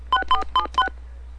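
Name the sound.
telephone keypad dialing tones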